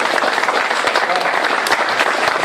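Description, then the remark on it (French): An audience claps steadily in thanks to friends who lend a hand to a small association, a dense, continuous wash of many hands with no break for the whole stretch, loud and even throughout. “Ouais, si vous pouvez les applaudir.”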